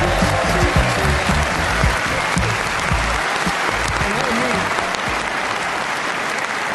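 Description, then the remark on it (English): A large Geordie audience applauds steadily, dense overlapping claps filling the space at a loud, constant level, with a murmur of crowd voices mixed in underneath. “One of you was clapping out of time.”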